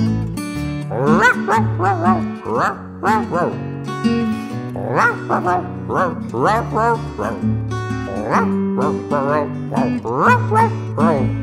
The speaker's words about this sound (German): Ganz egal, du bist zur Stelle und schon hört man das Gebelle. Den Briefträger macht das nicht froh, denn wenn du bellst, dann klingt das so.